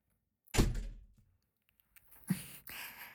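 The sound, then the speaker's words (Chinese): A door shuts with one solid, booming thud that fades quickly. About two seconds later comes a lighter knock, then a short stretch of rustling noise. “那我先关门哦，别让别人看到了。”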